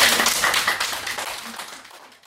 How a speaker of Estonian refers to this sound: Nii et ma tehke nüüd endale aplaus kõigepealt selle eest, et te olete nii tublid olnud, vaeva näinud ja need pildid on kuidagi niisugused vaatamata värvitoonidele helged.